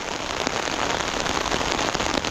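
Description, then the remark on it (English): Steady rain pattering on an umbrella while someone walks in the rain, a dense continuous drumming of drops with occasional sharper taps, no voices present. “Let's do some umbrella ASMR.”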